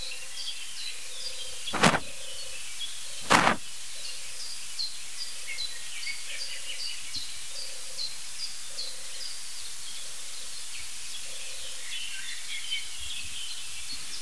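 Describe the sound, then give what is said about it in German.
Turtle doves, sounding like two birds, purr in soft, low, rolling coos that repeat steadily in short bursts on a June morning at sunrise, while small birds chirp faintly in the background and two sharp clicks sound early on. “Das klingt sogar wie zwei Tauben.”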